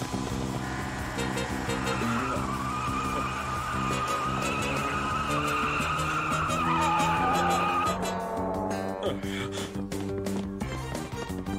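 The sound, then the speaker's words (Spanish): A stolen car is driven off by the thief, peeling away with tires screeching loudly, the squeal holding steady and then wavering as the engine roars off, with a busy layer of music or noise underneath. “Oigan, él está robando mi auto.”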